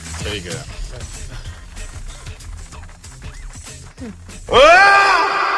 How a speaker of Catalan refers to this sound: Hauries de començar cada dia el programa amb aquest crit.